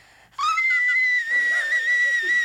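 A singer abruptly launches into a very high, shrill whistle-register note and holds it steadily for about two seconds, piercing and kettle-like, loud with no other sounds.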